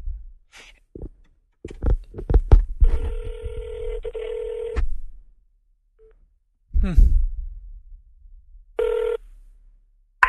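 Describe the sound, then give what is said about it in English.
A telephone ringback tone purrs steadily for about two seconds on an outgoing call, then returns briefly near the end, with muffled voices and handling bumps around it. “She's not answering her phone. Huh. Wonder where she's at. Let's try one more time.”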